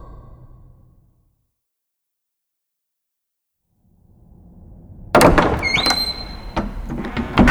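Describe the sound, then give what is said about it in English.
After a low, quiet rumble and a silent gap, a door bursts open with a loud clatter and a brief high squeak, followed by continued rattling noise. “Quick, open the door.”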